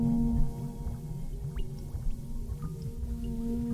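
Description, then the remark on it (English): A steady, low humming instrument tone with layered overtones, sprinkled with quick rising chirps and watery, drip-like pitch bends, playful and atonal, like a water drum. No one speaks. “Kind of sounds like a water drum, if that makes any sense. A little bit like water drops, laser beams, I don't know.”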